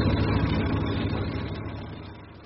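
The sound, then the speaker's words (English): Ship engines, overheating after running flat out for five hours, drone steadily with a deep low rumble, a faint rapid ticking of tapping tappets running through it, slowly easing off in loudness toward the end. No one speaks. “Them engines don't sound so happy, do they, Chief? Would you spin happy after working flat out for 5 hours? Can you hear the tappets?”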